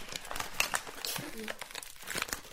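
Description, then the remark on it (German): A candy bag made of aluminium foil with a plastic coating, full of sweets, is squeezed and crunched, giving a dense, crackly crinkling that comes in irregular bursts of sharp, bright rustles for a few seconds. “Ein zähes Knirschen. Produziert mit einer Bonbon-Verpackung, wo ganz viele Bonbons drin sind, Bonbon-Tüte.”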